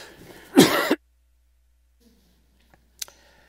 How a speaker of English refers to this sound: If you excuse me, I'm going to cough here in a moment.